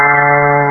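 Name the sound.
cow mooing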